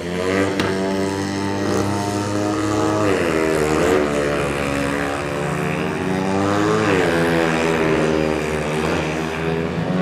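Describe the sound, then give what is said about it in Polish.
Loud, continuous roar of several speedway motorcycle engines in Lublin, Poland, their pitch rising and falling as they rev and pass, with no voices, filling the whole stretch without a break. “No jak większość Lublinian, zrastaliśmy w tym pomruku silników żużlowych w naszym mieście, bo jesteśmy miastem żużlowym.”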